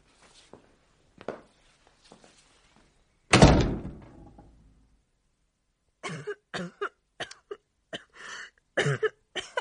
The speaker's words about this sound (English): You're still coughing.